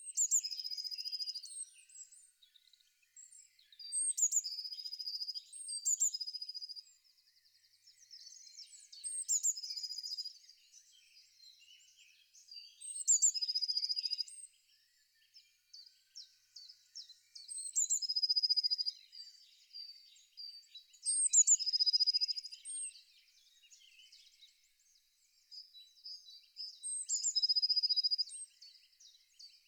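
A Eurasian blue tit sings a series of about seven short, high-pitched phrases, each a few thin notes running into a brief trill, repeated with short pauses between them. No voices.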